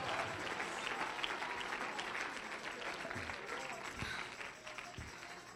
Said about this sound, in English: Clap your hands. Lift your voice.